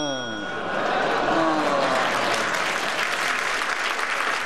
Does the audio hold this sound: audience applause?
yes